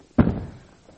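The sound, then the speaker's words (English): A single heavy wooden thunk as a chair is set down on the floor for a demonstration, with a short decaying rumble and no voices. “I need a chair. Well, you got that. Oh, no, I'm not going to take that chair. I'm going to take this chair.”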